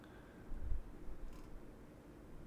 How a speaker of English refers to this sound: Citrine stone is clicking.